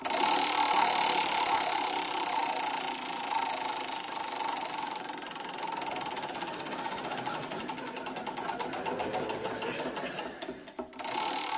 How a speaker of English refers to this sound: In this round, teams, I shall spin the wheel of history. And every time it alights on a date, I'd like you to provide me with a previously unreported historical event. OK, so let's give the wheel its first spin.